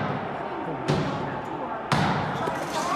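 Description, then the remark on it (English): Heavy thuds strike the doors of Congress at the US Capitol twice, about a second apart, loud, over a continuous murmur of a restless crowd of Trump supporters. “They were literally banging on the doors of Congress.”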